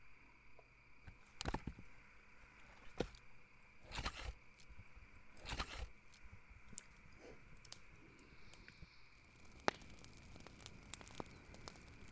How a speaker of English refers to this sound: Look, the sun is setting. We should set up a small camp for tonight. Help me gather some sticks and leaves so they can build a small campfire.